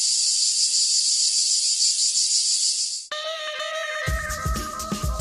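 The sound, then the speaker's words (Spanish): A loud, steady cicada drone buzzes for about three seconds, then cuts off abruptly as bright music with a strong beat takes over, opening the UPV Radio programme El cant de la Chicharra. “El cant de la Chicharra, música i desfici en UPV Radio.”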